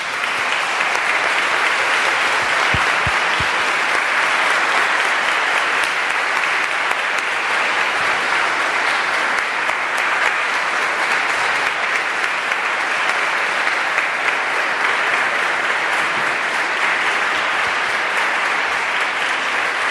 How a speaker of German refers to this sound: Und wenn sie die Spitze finden, dürfen sie mir einen gehörigen Applaus geben.